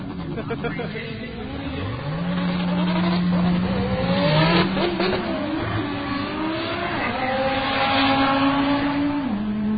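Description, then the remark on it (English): Drag racing cars, a black car and a blue car, launch down the strip at Echo Dragway, with a 1993 Volkswagen Corrado racing. Engines roar and rev loudly for several seconds, pitch climbing and shifting as they accelerate hard, with a steady loud drone throughout and some voices underneath. “I noticed the black car started well before the blue car did.”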